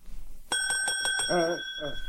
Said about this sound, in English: There was a bell on the counter.